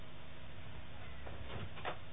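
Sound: cat meowing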